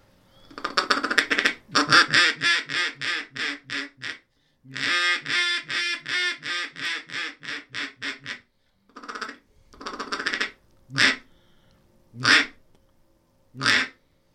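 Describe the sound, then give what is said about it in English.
A mahogany duck call with a cedar throat and a metal reed, blown in several bursts of rapid, raspy quacks, a long descending string, a few short groups, then three single loud quacks spaced apart, with no talking. “Yeah, and it's got like, it's mahogany, a cedar throat. It's a metal reed. I haven't blown this one in a long time either.”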